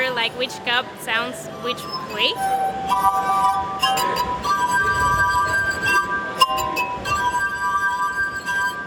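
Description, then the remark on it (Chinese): A glass harp of 60 goblets fixed with rubber bands on a soundboard rings out, played by a 78-year-old musician in a historic town; sustained pure tones overlapping into a shimmering melody, fairly loud, with a voice briefly audible at the start. “他演奏玻璃琴已经50年了。”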